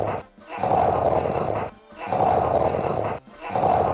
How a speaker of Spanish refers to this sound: Así ronca su marido.